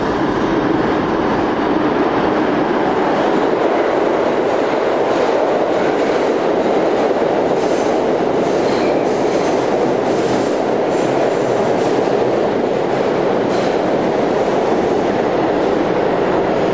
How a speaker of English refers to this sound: All right, train break, train coming by.